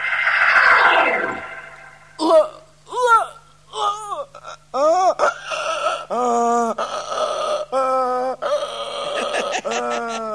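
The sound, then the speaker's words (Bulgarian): A voice brays like a donkey in a string of loud, strained hee-haw cries with a rising and falling rhythm, following a brief rushing whoosh at the start. “И колко бързо научи магарешки език.”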